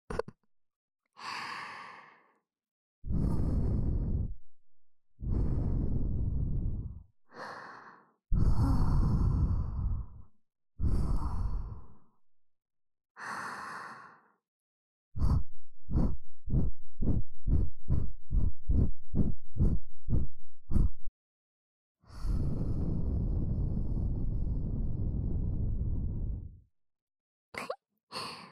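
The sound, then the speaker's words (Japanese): Soft breaths are blown into the ear to tickle it, in long airy exhales, broken up by a quick rhythmic run of short puffs, then one more drawn-out breath near the end. No one speaks. “吐息で耳よくくすぐりの刑だよ。”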